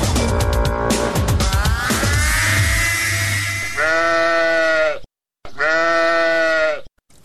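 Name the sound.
sheep bleating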